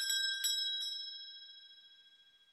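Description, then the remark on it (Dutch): A school-type bell rings during a council swearing-in, with a few quick metallic strikes, then its bright, clear tone hangs and slowly fades. It is fairly quiet, with no voices. “Ja, nou, het is een soort schoolbel.”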